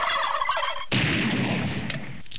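A turkey gobbles loudly, a rapid warbling burst that breaks into a broader, noisier rattle lasting a couple of seconds, with no talking.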